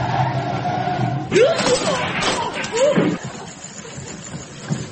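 A bicycle is knocked into a ditch: two loud bursts of clattering and crashing, each with a short swooping vocal cry, over a steady low rumble that continues afterward.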